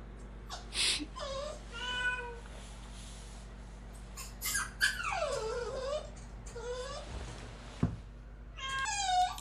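A cat meows several times in a row, some calls short and sharp, others long and wavering, fairly loud over a steady low background hum, with no one talking.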